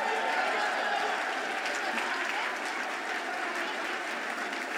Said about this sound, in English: Stand up and get recognized. Let's go. Give these folks a round of applause.